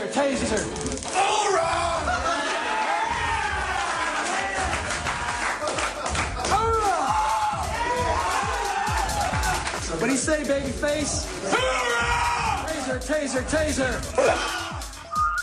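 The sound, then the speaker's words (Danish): A rowdy group of voices shouts, jeers and cheers over one another, loud, with scattered claps and slapping sounds punctuating the continuous din, as people take a shot, the group taunting anyone who shows pain and cheering those who take it without flinching. “De råber højt. De håner hinanden, hvis nogen viser smerte. Og jubler af dem, der tager skuddet uden at kny.”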